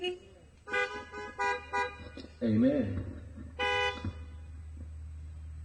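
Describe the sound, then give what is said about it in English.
Several car horns honk in short separate blasts as listeners answer a preacher's call to say amen, with a longer sustained honk near the end, over a low engine rumble; a voice speaks briefly in the middle. “Whenever y'all ready, say amen, honk your horn, blow your horn.”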